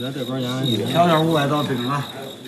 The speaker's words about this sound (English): Each carries a little shoulder bag full of round clay jars. Inside are chirping crickets. Yes, crickets.